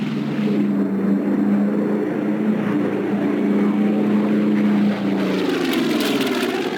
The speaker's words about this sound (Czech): Je naprostá, momentálně když létá Spitfire, tak to se úplně ježí kůže a zatajuje se dech.